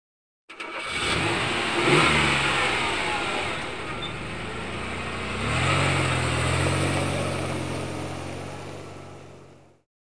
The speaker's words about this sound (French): I can hear a car. J'entends une voiture.